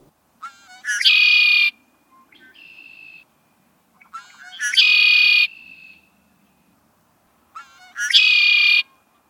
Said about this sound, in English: Many of you will recognize it as the call of the red-winged blackbird, and it's one of the sounds we most look forward to in early March. These birds are one of the early spring arrivals, and we often hear them before we see them.